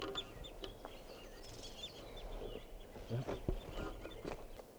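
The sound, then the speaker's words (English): A flock of birds calls continuously in a corral in Barfoot Park, with many short, high chirps and peeps overlapping throughout, over a low rumbling background with a few soft thuds; no one speaks. “Birds are starting to call here now.”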